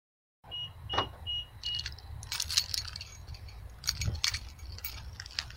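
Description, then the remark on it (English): Keys and a small pepper spray canister jangle on a keychain, producing a run of bright metallic clinks and rattles over a low, steady rumble, with a few thin high tones near the start. “It is the sound of pepper spray on a keychain.”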